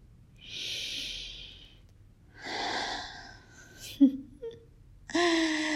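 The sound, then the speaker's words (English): Two long, breathy sniffs as a woman leans down to sniff a man's testicles, followed by a few short nasal snorts and a soft, voiced hum toward the end. “And once I've held them, massaged them, and played with them, I like to lean down and sniff them like this.”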